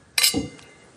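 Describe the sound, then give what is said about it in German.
Glasses of 2018 vintage sparkling wine clink together once in a toast, a bright, ringing chime, followed by a soft low knock and a faint lingering ring as the glasses pull apart. “Prost. Zum Wohl. Zum Wohle.”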